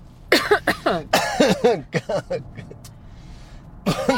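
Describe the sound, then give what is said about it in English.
A loud fit of coughing: a rapid string of harsh, raspy coughs tumbling one after another, a brief lull, then another burst of coughs at the end. “Now's the time on the show where we cough uncontrollably.”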